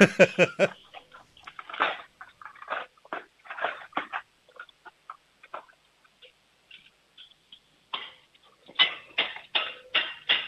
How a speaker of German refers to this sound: Und jetzt hätte ich gern, dass du in die Küche läufst, die Bestecklade aufmachst, alles Besteck in die Hand nimmst und dann so richtig schön laut reinfallen lässt, das richtig Lärm macht. Das kann ich.